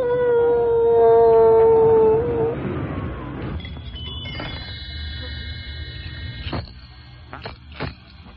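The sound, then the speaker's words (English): A loud, sustained howl holds a steady mid pitch for a couple of seconds, then gives way to rustling noise and thin, high ringing tones. “Dance and howl.”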